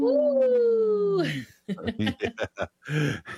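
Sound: people imitating wolf howls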